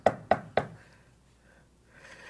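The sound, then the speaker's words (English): Three sharp knocks on a door in quick, even succession, fairly loud, each ringing briefly before fading. No one speaks. “God is waiting outside the church, but still he knocks.”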